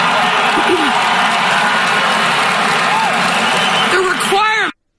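A large crowd in Chicago cheers loudly and continuously for a speaker saying officials should never profit from their office, a dense roar with scattered whoops and shouts rising near the end before it cuts off abruptly.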